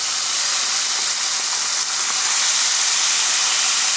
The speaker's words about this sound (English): Okay. I'm just gonna bring it up to temperature. So we've got our spices frying here. I'm gonna go ahead and add our chicken.